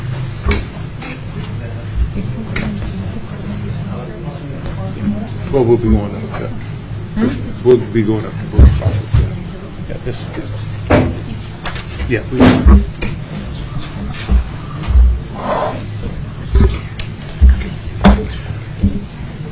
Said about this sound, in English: And if you'd go ahead and come forward, and we'll get some other chair. If you wouldn't mind pulling the chairs from around there, if they'll fit easily.